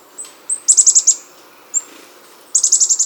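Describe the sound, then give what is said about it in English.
A black-capped chickadee calls: short high thin notes followed by a quick run of five buzzy, evenly spaced notes, then after a pause another rapid buzzy series. No voices. “the remarkable ability of black-capped chickadees to recall the locations of hundreds of stored seeds.”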